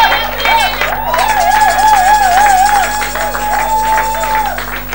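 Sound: audience applause and cheering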